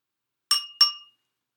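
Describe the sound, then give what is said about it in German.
A small bell rings twice in quick succession, two bright metallic tings that shimmer and fade fast, against an otherwise silent background. “Kling, macht ein Glöckchen.”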